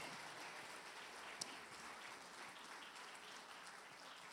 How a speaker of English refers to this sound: Church, can we give them another hand clap?